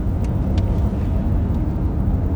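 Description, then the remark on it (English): A car engine runs steadily throughout, a dense low rumble with a constant drone and no change in pace, fairly loud with no voices. “Nice car.”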